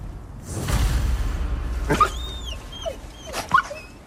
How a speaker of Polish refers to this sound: To są wilki.